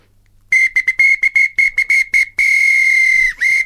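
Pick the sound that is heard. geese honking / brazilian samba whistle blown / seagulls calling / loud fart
brazilian samba whistle blown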